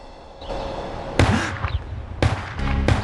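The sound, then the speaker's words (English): Three sharp gunshots, fired by a bearded man, crack out at uneven intervals, loud, each one a sudden bang that rings briefly over a steady background rumble. “He jumps on hearing the gunshots.”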